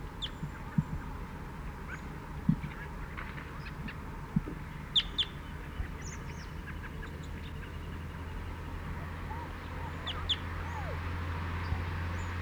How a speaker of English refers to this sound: Chittering on the way in. Perched in the pine immediately behind the net. Chitter.